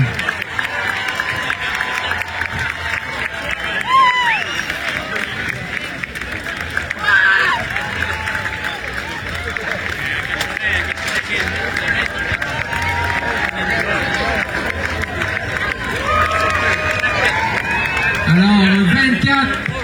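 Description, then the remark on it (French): A large crowd claps and cheers for the 24 swimmers from 11 countries starting the 72nd International Lac Saint-Jean crossing, presented by Rio Tinto: a steady, dense wash of noise that holds loud for the whole stretch, with a voice rising over the din at moments. “veuillez applaudir chaleureusement les 24 nageuses qui prendront le départ de la 72e traversée internationale du Lac Saint-Jean, présentée par Rio Tinto.”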